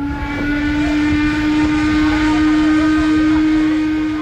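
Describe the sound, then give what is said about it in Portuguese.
The engines of the steamboat Uri, carrying up to 800 passengers, start up as it departs Lucerne, Switzerland, onto the lake at nine in the morning, with a loud, steady mechanical hum and a sustained whistle-like drone, constant throughout with low rumbling underneath. “Logo depois, as turbinas do barco a vapor começam a funcionar e partimos.”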